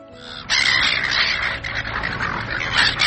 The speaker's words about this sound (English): Noisy and persistent seagulls are notorious for pestering beachgoers in Australia.